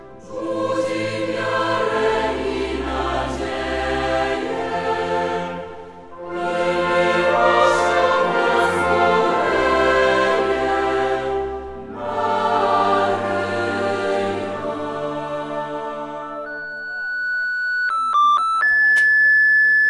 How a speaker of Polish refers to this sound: Drodzy Państwo, ten ciekawy, interesujący dźwięk to sygnał dźwiękowy grupy rowerowej z Kalisza.